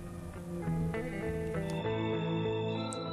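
A recorded music track plays steadily, a dense, sustained organ-like sound with layered tones and a wavering, effect-laden quality, loud and close, with no voices.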